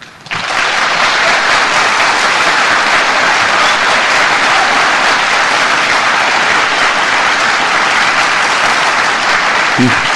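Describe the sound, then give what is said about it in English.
Sustained audience applause at a US vice-presidential debate after a candidate's closing statement, a dense, steady wash of many hands clapping that starts abruptly and stays loud and even for about ten seconds, with no voices standing out. “I must say now, in matters of equity, you will be allowed applause at the end of your closing statement, so if you begin it now, please.”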